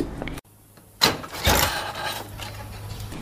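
A knock on a door: two loud, sharp thumps about half a second apart after a moment of silence, then a rattling, rumbling noise that trails off. No one speaks.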